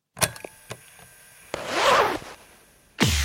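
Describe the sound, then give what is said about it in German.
A zipper is pulled in a few short tugs, then drawn in one longer rasping stroke, ending with a sharp final zip; fairly loud, with no voices. “Das ist ein Reißverschluss.”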